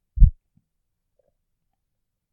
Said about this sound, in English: Just listen to each slow, rhythmic beat of my heart.